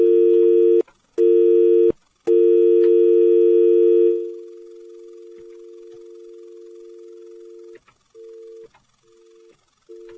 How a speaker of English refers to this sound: Can't seem to get rid of the dial tone.